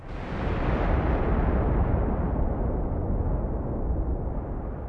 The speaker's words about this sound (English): They also used a sheet of metal. A sheet of metal? How? Well, when you shake a sheet of metal, it sounds like a real storm.